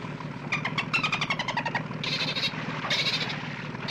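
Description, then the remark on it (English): A motorboat engine runs steadily in the Everglades, its low droning hum underpinned by a fast, rhythmic sputter that surges and fades in bursts, with no voices. “Are you sure we can take the boat in there? Are you kidding? This thing will run on a wet sponge.”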